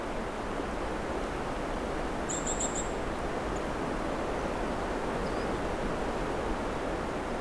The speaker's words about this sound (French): Un petit gazouillis, sifflement.